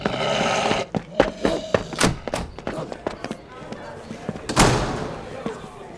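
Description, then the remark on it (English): Quick, uneven thudding footsteps dash up a set of steps to a door, the sharp knocks fairly loud, ending with a heavier thump like arriving at the door. “Quick dash up the steps to the door.”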